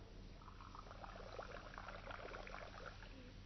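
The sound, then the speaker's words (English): Water pours steadily into a glass, a continuous splashing and gurgling that lasts a few seconds with no one speaking. “Let's have a glass or two.”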